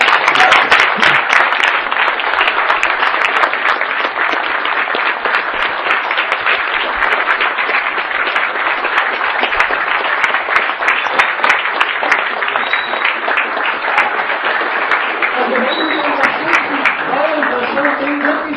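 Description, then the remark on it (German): Sustained audience applause after the first part of a lecture, a dense crackle of many hands clapping at steady loudness for the whole stretch, with faint voices mixed in toward the end. “Vollen Applaus, ne?”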